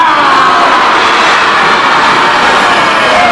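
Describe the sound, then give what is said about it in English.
A crowd of voices growls together like a lion as a vocal warm-up, making big lion faces with mouths opened wide, a dense, rough, steady roar held loudly for a few seconds without a break. “So before we do that, everybody do me a favor and make a big lion face. Open your face as wide as you can and make a growl sound.”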